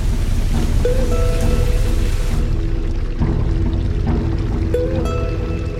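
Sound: heavy rain falling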